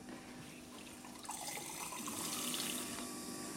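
water running

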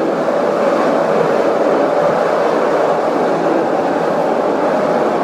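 train noise

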